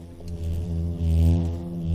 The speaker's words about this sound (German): Das Summen, das kennt man ja auch von anderen Insekten, das liegt am Flügelschlag. Also die bewegen ihre Flügel mit sehr hoher Frequenz und dadurch entsteht so ein summendes Geräusch. Auch Hummeln, Wespen und Hornissen brummen, summen. Hummel?